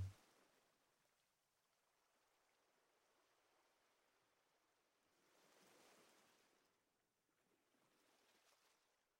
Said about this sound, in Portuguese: Deixamos relaxar e aproveitamos o movimento do mar.